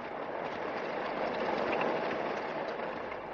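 Steady, dense rain falls without a break, a constant hiss of drops that stays even in loudness throughout. No one speaks.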